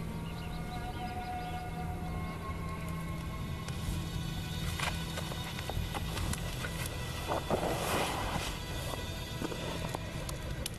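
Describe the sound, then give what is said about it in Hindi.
Horse hooves clip-clop in an uneven scattering of sharp knocks over a constant low hum, with no voices, fairly quiet. “इस घोड़े का क्या करूं? इसे बैलगाड़ी के पीछे बांध दो।”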